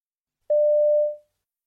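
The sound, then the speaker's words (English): One steady electronic ring-back tone sounds as a boy calls a friend on his mobile phone, a clear mid-pitched beep lasting under a second before fading out, with silence around it and no voices. “You overhear a boy calling a friend on his mobile phone.”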